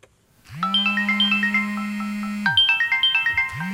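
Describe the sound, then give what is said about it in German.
A mobile phone belonging to an Espresso listener in the canton of Bern rings for a call from a Spanish number, with a bright, repeating electronic melody of quick chiming notes, playing through one full cycle and starting again, clear with no one talking. “Ja, letzte hat einem Espresso-Hörer aus dem Kanton Bern sein Handy geläutet.”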